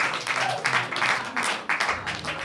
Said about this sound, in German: Vollkommen zu Recht der Applaus.